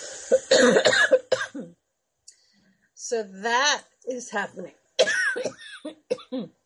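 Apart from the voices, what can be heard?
coughing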